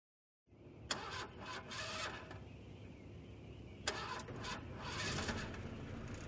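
A car engine cranks and runs unevenly, making strange noises: a steady low rumble broken by sharp clicks and hissing, sputtering bursts. It sounds fairly loud, with no voices.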